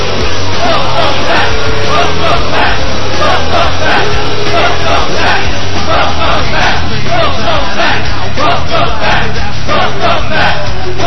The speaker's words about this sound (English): Exiting the ring to the chants of welcome back, Magna Brandel has stunned this capacity crowd.